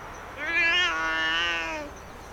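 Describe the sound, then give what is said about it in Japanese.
A calico cat named Hana, 11 years old, lets out one long, drawn-out meow that rises, holds steady and then tapers off. It sounds clear, with no talking and only faint background hiss. “私、三毛猫の花、11歳。”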